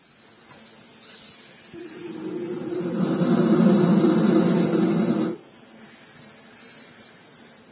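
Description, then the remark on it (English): Two palm-sized baby yellow-headed vultures at the bottom of the hollowed-out trunk of a fig tree let out one sustained, breathy hiss with a low rasping edge, swelling for about three seconds before cutting off, over a steady high-pitched drone of insects. “And down in the bottom of this hollow were two baby yellow-headed vultures.”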